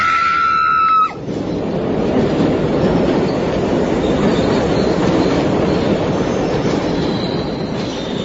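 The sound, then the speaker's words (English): A train rolls into a crowded station platform: a brief, high, tonal squeal or horn at the start gives way to a loud, steady, rattling rumble of wheels on rails that holds throughout. “Then, as the train drew nearer and nearer, I leaned forward.”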